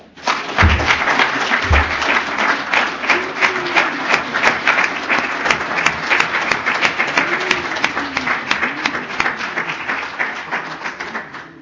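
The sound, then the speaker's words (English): A crowd applauds a speaker steadily for about eleven seconds, a dense, even patter of many hands clapping, with a couple of low thumps near the start and faint voices calling out underneath. “All right, let's give Lorenza another round of applause.”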